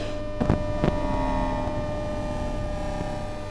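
A steady electrical hum from a transport system's electromagnetic field, rich in layered drones and harmonics, broken by two brief crackling bursts early on before settling into an even, unbroken buzz.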